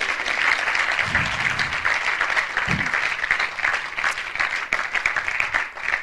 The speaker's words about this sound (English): You can clap now. It's all right.